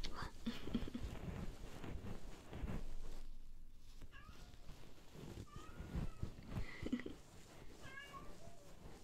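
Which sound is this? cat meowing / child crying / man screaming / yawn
cat meowing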